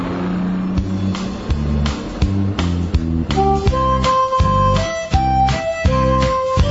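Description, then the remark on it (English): The nursery tune "The Wheels on the Bus" plays loudly on instruments with no singing, steady bass chords keeping a regular beat and a bright melody line joining partway through. “The wheels on the bus.”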